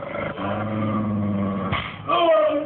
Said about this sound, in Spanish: Lucifer, el enorme mastín, gruñe nervioso. La sangre lo exaspera y los gritos de Zarco lo enfurecen.